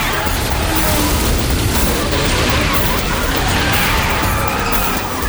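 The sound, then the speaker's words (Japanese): A loud, dense burst of crashing and banging fills the whole stretch as a car with a shot-out tire and no steering crashes and overturns, with heavy low rumbles and sharp impacts, no clear speech. “タイヤ撃たれた。ハンドルも効かない。”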